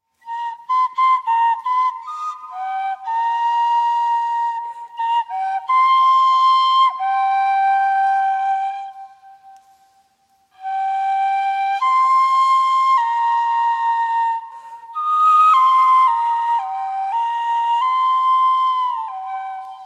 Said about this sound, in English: Okay, we have a recording of this flute being played in the cave where it was found. Let's hear it.